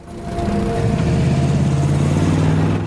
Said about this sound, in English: drives away up a steep, dusty side track to the road.